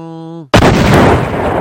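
A thunder-and-lightning sound effect that sounds like a bomb blast: a brief buzzing electronic tone cuts off into a sudden, loud explosive crack followed by a sustained roaring rumble.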